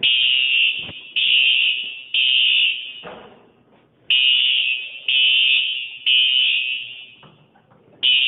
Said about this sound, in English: The smoke detector alarm usually is, like, slow, chill. It's like, whoop, whoop.